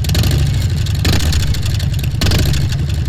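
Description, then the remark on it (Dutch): A loud, deep motorcycle engine rumbles, surging in two bursts of revving with heavy low-end throb from its large exhaust pipes; no one speaks. “Er zitten al vrij grote pijpen onder. Dus dit is. Zo klinkt hij nu.”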